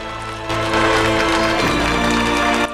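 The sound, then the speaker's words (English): An office full of people breaks into a standing ovation, with dense, loud, sustained clapping that swells in after a brief moment and holds steady to the end. “The whole office, including Alex, gives June a standing ovation.”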